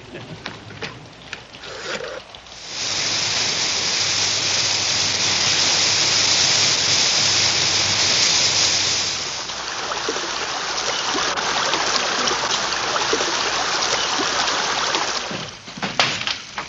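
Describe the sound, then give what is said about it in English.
Heavy storm rain pours in a dense, steady hiss that swells up after a few seconds, eases slightly midway, then cuts away near the end. No one speaks. “Storm's letting up, and the foreman says we can get to Puerto Verde in the truck.”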